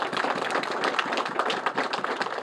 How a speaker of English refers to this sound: Let's give our governor a round of applause once again.